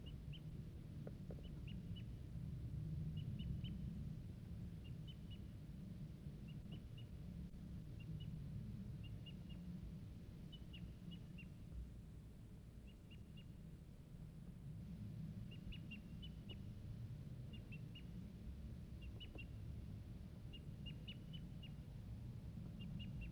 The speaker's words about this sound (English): I see, still see the wild bird. He's tooping now from a treetop, far off, about 100 yards.